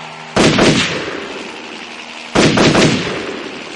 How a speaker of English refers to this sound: The two soldiers turned the gun towards the sky and Bond shot at the helicopter.